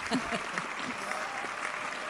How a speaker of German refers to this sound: Erstmal. Applaus.